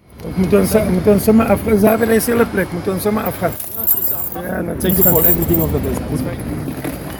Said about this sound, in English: On the tape, you can hear Anthony's shackles as they clack together